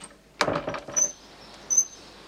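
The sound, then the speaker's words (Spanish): An upstairs door is opened with a latch clunk and a few quick rattling knocks, followed by a couple of thin, high hinge squeaks in quiet surroundings. No one speaks. “Abre. El cuarto está vacío.”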